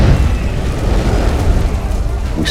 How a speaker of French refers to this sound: Et il y a de multiples explosions à quelques minutes d'intervalle.